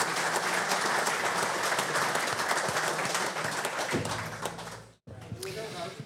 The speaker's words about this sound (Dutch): Applausje. Een applaus.